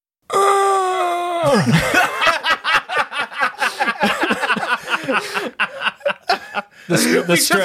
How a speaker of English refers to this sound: What was that noise? Oh my god! It was the straining of my vocal cords from just being stressed out from this question.